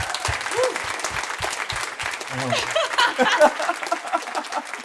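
Sustained applause from an audience, dense clapping with a few whoops and cheers mixed in, steady and fairly loud throughout.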